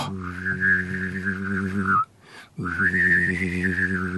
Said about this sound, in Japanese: あと、口笛みたいなのもあります よね。